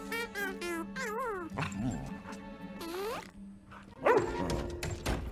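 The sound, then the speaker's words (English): A dog barks in short, loud bursts, mixed with high, wavering whines and yips over several seconds, aboard a ship. “Can you not yell at my dog?”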